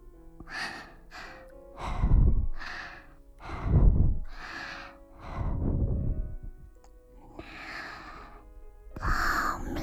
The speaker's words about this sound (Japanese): いきなりだと痛いから、最初に吐息を。